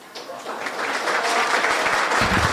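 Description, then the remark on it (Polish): A crowd applauds steadily at a school ceremony in Zielona Góra after the unveiling of a Tadeusz Kościuszko memento, a dense wash of many hands clapping that swells slightly and holds at a fairly loud level, with a few low thumps near the end. “Gorące brawa!”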